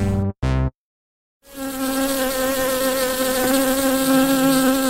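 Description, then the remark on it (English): Two quick buzzing bursts, a brief silence, then a steady, loud drone of bees buzzing that holds an even pitch through to the end. “Don't you just love the sound of bees?”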